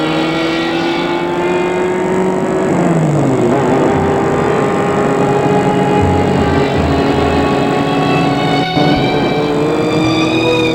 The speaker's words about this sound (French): Et Edmond quitte son père. Il prend la voiture et roule.